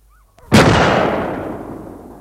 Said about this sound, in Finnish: Mutta silloin pamahti vieras pyssy ja ylpeä hirvi kaatui toisen ampumana juuri, kun 16-vuotias metsästäjä luuli varmasti saavansa kunnian sen kuolemasta.